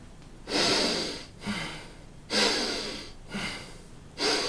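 Deep breaths drawn in and pushed out through the nose by a person lying down, about five alternating inhales and exhales in a steady rhythm, fairly loud, with no talking.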